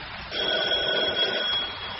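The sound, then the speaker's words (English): A doorbell rings once, a steady, bright electric ring lasting about a second before cutting off, with no voices around it. “I must answer the door.”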